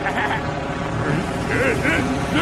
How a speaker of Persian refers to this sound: خب میریم تیکاف کنیم. افزایش قدرت موتور، توربینا با حد اکثر توان.